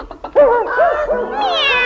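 A voice imitates a cat, giving a drawn-out, wavering meow, loud and alone, with rising and falling pitch that ends in a higher, whining tail.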